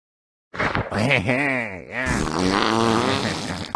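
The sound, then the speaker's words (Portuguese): A loud, drawn-out cartoon fart sound effect, buzzy and tonal, its pitch wobbling and swooping down and back up for about three seconds, heard alone. “Que tinha um cara jogando um balão de água na tela. Um cara peidando.”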